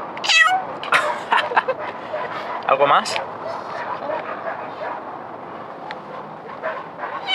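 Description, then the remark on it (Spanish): A cat meows several times as it comes to greet people, short bright cries with harmonic sweeps, while a person speaks briefly and soft outdoor background noise continues. “Los gallos cantando, los gatos saludando.”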